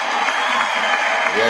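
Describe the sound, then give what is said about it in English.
A steady round of applause after a rap track is played, a dense wash of many hands clapping at an even loudness for the whole moment, with a faint murmur of crowd noise mixed in. “Let me get out a round of applause.”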